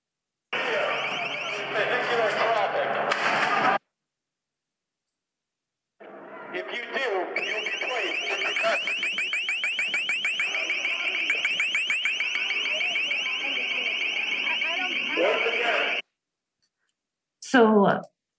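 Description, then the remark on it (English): A piercing, high-pitched acoustic weapon tone blares loudly in three bursts: a short blast, a long sustained stretch with a rapid pulsing shimmer, then a brief final burst. Indistinct voices sit underneath. “It's meant to cause pain and permanent hearing loss, not only because of the volume, but because of the particular frequency it's at, which is where hearing is most sensitive.”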